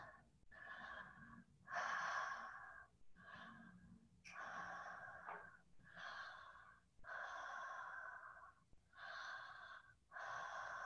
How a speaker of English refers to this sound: Put your hands on your bellies, and let's just take slow and easy breaths. And this is going to be shorter than yesterday. In and out through the bellies, in and out through the mouth, circular breathing.